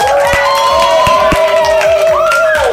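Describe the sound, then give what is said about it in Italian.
A large audience applauds and cheers itself after singing a whole long song, loudly and continuously, with dense clapping, shouting voices and a few sustained whistles rising over the roar. “Intanto fatevi un applauso, sentite il pubblico.”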